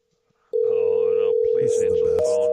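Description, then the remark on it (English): A steady, unbroken telephone ringing tone of a phone call starts abruptly and holds loud, shifting pitch slightly near the end, while a voice talks over it. “Oh, please answer the phone.”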